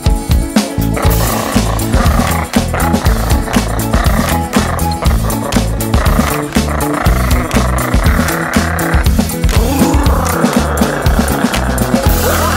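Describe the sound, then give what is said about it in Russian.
A loud, growling tiger roar rumbles continuously over a busy rhythmic backing, rough, filling the whole stretch without pause. “Точно, это тигр! Я сам его боюсь.”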